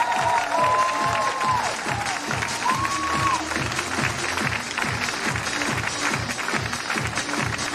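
A large audience claps loudly and steadily throughout, with a few sharp whistles rising above the dense applause early on and a general cheering roar underneath.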